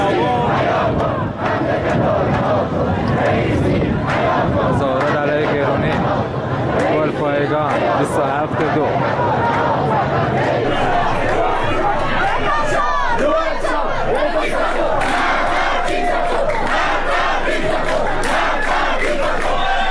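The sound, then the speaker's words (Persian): A large protest crowd in Golpayegan, Isfahan province, Iran, chants slogans against Islamic Republic officials on a Tuesday night, loudly in unison, many voices shouting together in a steady, rhythmic roar that holds dense and unbroken throughout, with scattered yells rising over the mass of voices. “ویدیوهای دریافتی از اعتراضات سه‌شنبه شب در گلپایگان حاکی از حضور گسترده مردم و شعارهای آنها علیه مقامهای جمهوری اسلامی بود.”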